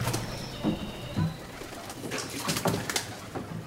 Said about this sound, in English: And every channel has a different sound. There are some channels you have a lot of birds singing.